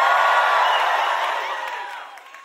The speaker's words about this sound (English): Everybody shout some kind of way. Just shout some kind of way.